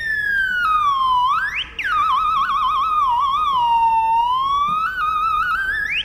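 A loud, continuous feedback howl from a small Twin Reverb guitar amp with no guitar played, its shrill tone sliding down, swooping back up, wavering and climbing again, with no voices over it.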